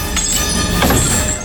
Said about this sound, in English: Chains give way.